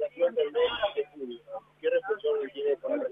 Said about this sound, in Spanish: Sí, por favor, hay un celular hablando y no escucho nada.